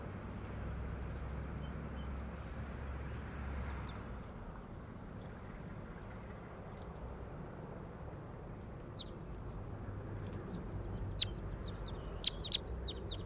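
crossbill calls

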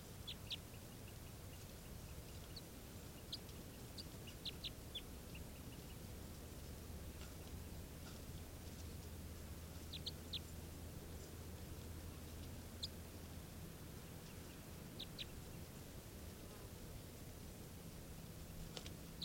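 bird calling

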